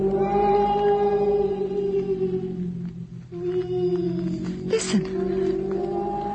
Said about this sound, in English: Who is that? You hear all sorts of things up here. You know how cats cry in the city? There are bigger cats in the woods.